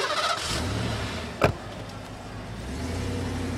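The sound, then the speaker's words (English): A car engine turns over with a sharp click partway through, then settles into a low, steady rumble as the vehicle pulls away, moderately loud, with no talking. “Jane, this is my car. You can't ride in my car. You have to walk home.”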